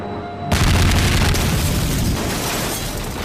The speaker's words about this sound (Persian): صدای پدافندها یادمون انداخت که فراموشمون نشه